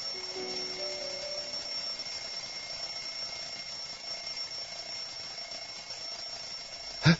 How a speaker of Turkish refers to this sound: Ne oluyor? Bu ses de ne? Çalar saatin sesi Alexey Aleksandrovich. Kalkın da odanızı temizleyin.